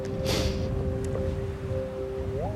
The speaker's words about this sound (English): I'm looking up at the crumbling castle. It's very windy.